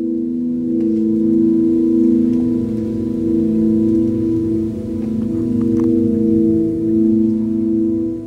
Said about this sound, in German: Und mit elektroakustischer Ecke meint Christian einen meditativen Sound, der sich mal als warmes Brummen, mal als abstrakter Regenschauer oder als sphärischer Klangteppich entpuppt. Das hört sich dann so.